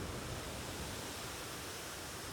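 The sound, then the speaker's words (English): A steady, soft rush of ocean waves washing on a beach, an even hiss of surf with no distinct crashes, heard alone with no voices. “And with every breath, you feel this connection to the sound of the waves.”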